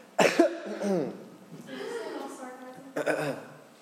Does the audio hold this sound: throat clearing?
yes